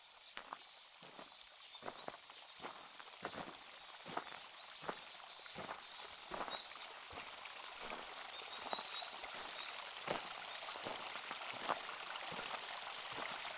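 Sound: flowing river water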